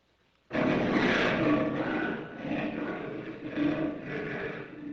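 A lion lets out a long, loud roar that starts abruptly and rumbles on with pulsing swells for several seconds, with no voices.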